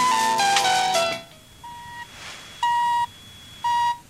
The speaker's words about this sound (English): Although in the following extract, I hear they do use the Radio Australia time signal.